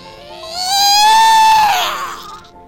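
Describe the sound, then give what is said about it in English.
A single drawn-out, piercing wail from a newborn baby just delivered through an incision, rising and then falling in pitch over about two seconds, loud with no talking. “The mouth opened. A whistle shrieked out.”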